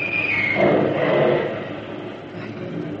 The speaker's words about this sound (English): Funny kind of lightning. That's artillery fire.